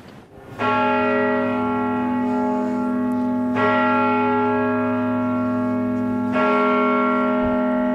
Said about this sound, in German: Die Glocke zu hören, direkt auf dem schmalen Pfad um den Kirchturm.